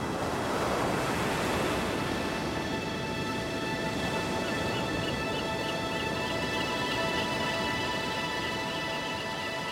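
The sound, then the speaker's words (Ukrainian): A steady, heavy, deep roar of a waterfall, heard from afar, fills the whole recording, dense and constant, with a faint humming tone running underneath partway through. “Важкий, глибокий, якийсь наче первісний гул води ми почули здалеку.”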